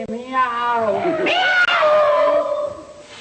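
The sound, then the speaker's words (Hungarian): A person imitates a cat's meow, one long drawn-out wail that rises and then falls in pitch, voiced loud for about three seconds. “Mutassa meg a fél pofáját, és nyávogjon, mint egy cica, hogy életű az legyen, de ijesztő az ne legyen. Miau!”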